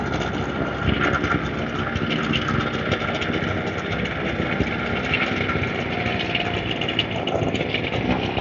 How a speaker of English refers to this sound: Three guys with backpack leaf blowers. No sign of hearing protection anywhere.